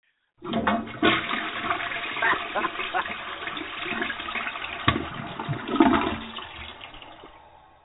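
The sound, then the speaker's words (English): A toilet flushes with a loud, sustained rush of swirling water that starts abruptly and gradually tapers off over several seconds, with gurgling bursts near the end. “my audio track of the toilet always flushes.”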